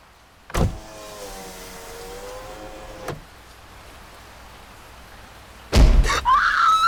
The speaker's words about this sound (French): Elsa baisse la vitre de la portière et sort sa tête à la recherche de Tomer.